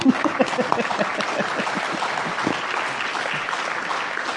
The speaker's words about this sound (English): That was nice. I'll clap.